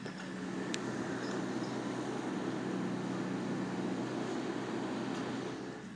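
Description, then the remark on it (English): A small digger, about the size of a van with a little digger arm and one man in it, about 10 meters away, runs steadily, a continuous low droning rumble with a humming tone that holds for the whole stretch, with no voices. “I'm going to see if I can record a sound of this digger, which is about 10 meters from my car.”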